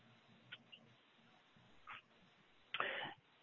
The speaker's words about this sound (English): Oh, sorry. I just unmuted and then I had to cough. Sorry.